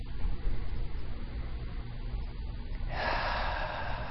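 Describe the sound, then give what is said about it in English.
Slow, deep breathing in and out: a long, low breath followed by a sharper, airy intake of air near the end, with no talking. “Let's be quiet for a moment and just listen to the in and out of our breath.”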